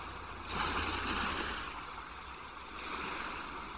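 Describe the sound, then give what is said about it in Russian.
Ocean surf washes in broad, hissing swells, one wave building and fading before another rolls in; a steady low rumble sits beneath, with no voices. “Шум прибоя погружает вас в приятную дремоту.”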